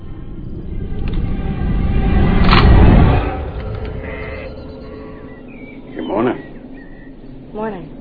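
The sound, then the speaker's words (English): Two short, wavering sheep bleats sound from a sheep pen near the end, following a stretch of low rumbling, muffled background noise. “Sleeping in my sheep pen.”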